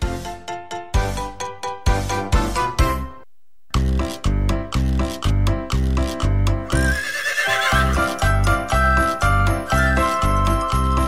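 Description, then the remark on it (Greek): A horse whinnies partway through a bouncy, upbeat song about horses, its wavering neigh rising over a steady clip-clop rhythm and jingling bells after a brief pause in the music. “Πάμε να ακούσουμε τα τραγούδια μας τώρα. Και με άλογα και χωρίς άλογα.”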